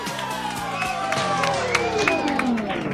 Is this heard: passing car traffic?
no